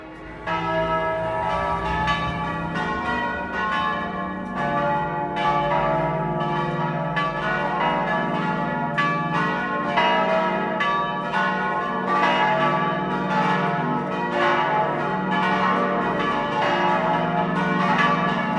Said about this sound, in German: Ebenfalls 7 Glocken bilden das Vollplenum, welches die Gießerei Hamm aus Regensburg Anfang des 20. Jahrhunderts der Gankhofener Kirchengemeinde in die niederbayerische Turmstube der Pfarrkirche